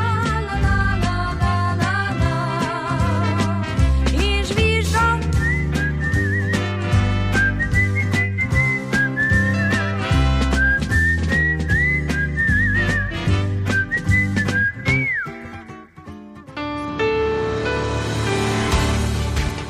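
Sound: human whistling a tune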